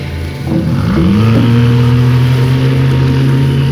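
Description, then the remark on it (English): A motorboat engine, with Mr. Q driving the boat, roars up and revs, its low droning pitch rising and then holding steady, loud, with no voices over it. “We should let Mr. Q concentrate on driving the boat.”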